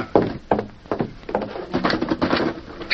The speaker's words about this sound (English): I'll close the door.